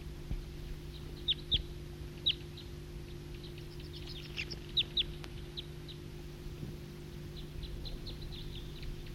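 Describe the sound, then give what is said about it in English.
A flock of wild birds calls in short, high chirps and squeaks, scattered irregularly and clustering in quick bursts, over a steady low mechanical hum. Nobody speaks. “It's recording Flock of Wild Birds.”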